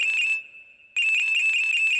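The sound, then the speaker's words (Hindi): A phone ringtone for an incoming call from the daughter-in-law plays loudly, a steady high electronic tone with rapid warbling bursts that pause briefly before resuming, with no one speaking. “अरे जे बहू को फोन रजा।”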